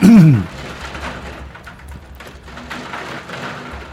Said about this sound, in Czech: Vážení posluchači, vzhledem k tomu, že ten déšť je takový, že se nedá pomalu vysílat